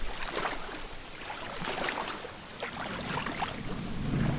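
boat on ocean waves

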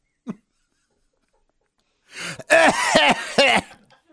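coughing and throat clearing

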